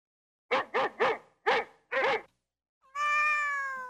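A dog barks five times in quick bursts, then after a short pause a cat lets out one long, steady meow. Both are clear and loud, with no talking.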